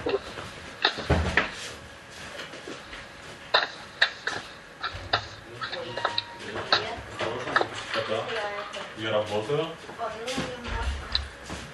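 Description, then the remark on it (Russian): A door is opened with several sharp clunks and rattles of the latch and handle, scattered knocks following, while voices murmur faintly in the background. “одну секундочку, там на дверь откроем.”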